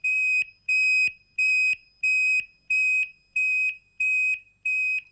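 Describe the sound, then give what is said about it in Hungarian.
An alarm keypad beeps steadily while arming, eight loud, even electronic tones about two-thirds of a second apart, each a bright high pitch with short gaps of silence between. “Vera és Csaba felöltöztek, lekapcsolták a lámpákat, bekapcsolták a riasztót”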